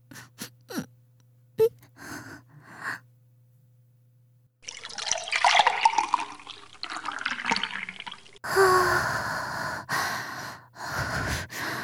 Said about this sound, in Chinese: 终于，好舒服，终于尿完了。